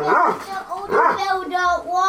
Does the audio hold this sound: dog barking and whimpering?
yes